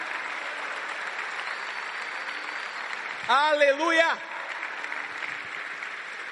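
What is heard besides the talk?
audience applause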